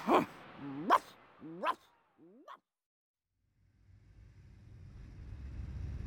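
A dog barks three times in quick, sharp succession, followed by a short whining yelp, then quiet before a low engine-like rumble slowly builds.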